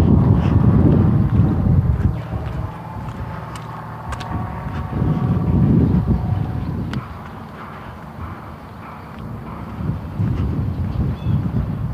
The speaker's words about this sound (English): Out of the blue of the western sky, we've got planes flying all over the place this morning.